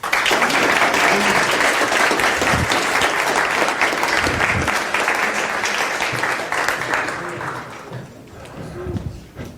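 A crowd breaks into sustained applause, dense and loud at first, then gradually thinning out toward the end, with a few scattered voices and cheers mixed in.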